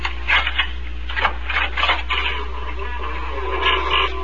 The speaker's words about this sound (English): I knocked.